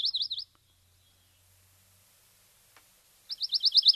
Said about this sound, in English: All right, so let's start with the pine warbler, and this is what the pine warbler sounds.